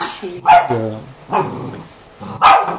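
A small dog barks three times in sharp, high-pitched yaps spaced about a second apart, loud, with a brief whiny tone trailing the first bark.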